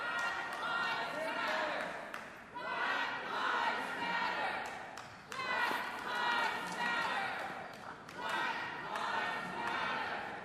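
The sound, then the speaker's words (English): A large crowd at Powell Hall chants a slogan, apparently "justice for us all", in loud, repeated rhythmic bursts, each phrase separated by brief dips, with scattered shouts and a steady roar of voices throughout. “So it sounds like they're saying justice for us all, if I can make that out.”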